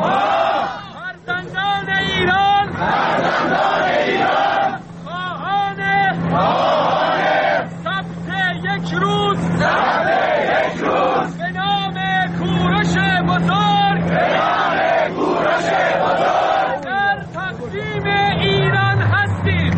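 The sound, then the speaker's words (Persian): A large crowd at a gathering in Iran honoring Cyrus and calling for a national Cyrus Day chants together in loud, rhythmic bursts of many voices, with short pauses between phrases and a steady low rumble of noise underneath throughout. “این صدا برگرفته از یکی از ویدیوهایی است که بر روی فضای مجازی منتشر شده است.”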